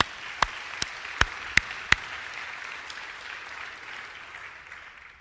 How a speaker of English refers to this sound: That deserves a hand clap, huh?